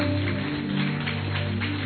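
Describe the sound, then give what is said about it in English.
A crowd claps for Jesus steadily and densely, a continuous patter of many hands, layered over sustained low musical tones that hold throughout. “Clap for Jesus,”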